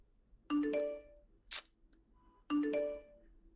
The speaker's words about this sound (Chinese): 不是让你把手机关声音了吗？这谁消息那么吵啊？把你自己手机叼过来。